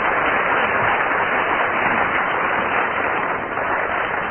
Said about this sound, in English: Very good. Round of applause.